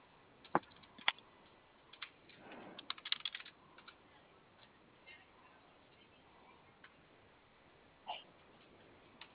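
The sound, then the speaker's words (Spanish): Scattered key presses on a cash register keypad: a few isolated sharp clicks, then a quick burst of taps midway and one more later, fairly quiet against a faint background hiss. “¿Sí le prende bien el teclado? El de la caja.”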